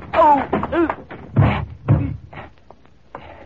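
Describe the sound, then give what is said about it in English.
A door slams shut with a pair of heavy thuds in quick succession, surrounded by muffled voice-like sounds and clatter before it fades to quieter rustling. “I hear the door slammed.”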